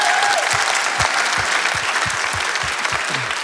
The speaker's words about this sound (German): auf guten Anraten meiner wunderbaren Frau, ohne die das alles nicht möglich wäre. Ein Applaus.